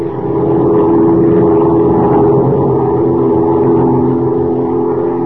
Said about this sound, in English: As our story opens today, Major Dover and Kent are flying southward in a big amphibian plane piloted by Jack Corboy, Dover's pilot. Below them, a wild river winds its way through the dense jungle of Central America. Listen.